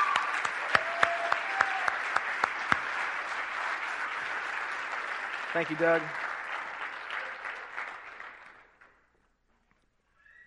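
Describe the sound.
An audience claps loudly and steadily for several seconds in a round of applause for a man who came up to tell his story, a dense wash of hand claps that slowly fades out to silence, with a brief spoken thank-you partway through.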